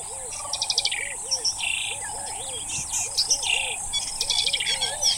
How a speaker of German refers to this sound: Noch bei Dunkelheit fahren wir in die Grassavanne hinein und erleben dort das Erwachen des Tages, das neben der wunderschönen Lichtstimmung insbesondere von einem opulenten Vogelkonzert bestimmt wird.